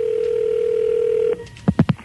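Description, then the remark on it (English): A steady, humming telephone dial tone holds for over a second, then cuts off and gives way to three quick, evenly spaced dialing beeps, as a Big Dog Radio host phones Chevrolet Geo on the air. “Yes, this is … from Big Dog Radio calling.”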